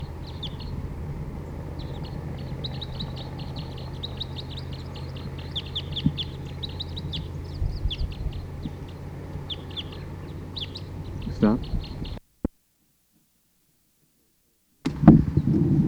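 bird, wild bird calling

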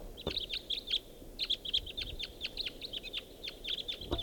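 bird, birds calling

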